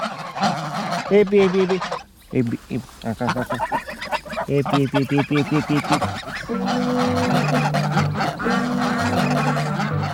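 A loud, dense chorus of geese and ducks honking and calling on a farm in the Cantal, overlapping harsh calls and quacks coming in rapid bursts, growing into a continuous clamor in the second half.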